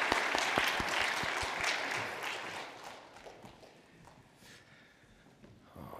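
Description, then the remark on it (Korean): A church audience applauds together in praise to God after a group's scripture recitation and special song, a dense wash of many hands clapping loudly at first, then thinning and fading to a softer patter before a brief swell near the end. No one speaks. “우리 하나님 앞에 영광의 박수 한 대 다시 한번 올려드리도록 하겠습니다.”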